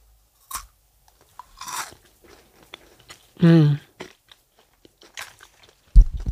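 Someone bites into a crunchy freeze-dried strawberry snack in a creamy matcha coating and chews, producing scattered crisp crackling crunches in irregular bursts, with a short hummed vocal sound partway through and a sharp crunch at the end.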